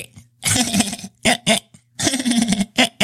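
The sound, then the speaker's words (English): A fairly loud voice imitates hiccups, producing a string of abrupt vocal bursts in an uneven rhythm, with a few quick, sharp ones between longer strained stretches. “…'s saying, she has hiccups”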